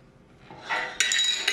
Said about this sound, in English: She gulps down most of the water. She sets down the glass and bends forward.